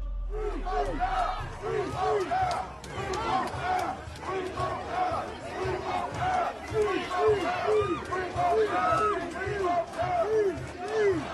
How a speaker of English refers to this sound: That's the support for …. …, or … as you can hear fans shouting in the background, as he arrived in court in London a little earlier this morning.